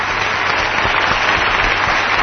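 A crowd claps steadily, a dense, continuous wash of applause that stays loud and even from start to finish with no voices rising above it.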